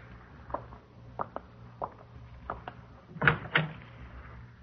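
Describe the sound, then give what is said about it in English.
A back door being worked open and shut: a few light clicks and rattles of the latch, then two louder thuds near the end, with no one speaking. “Out the back door.”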